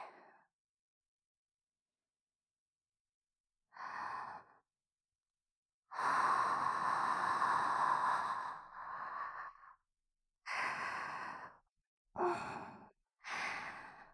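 Close, breathy exhalations blown toward the ear, a series of soft whooshing breaths, one long and several shorter puffs separated by silence, intimate and near with no speech.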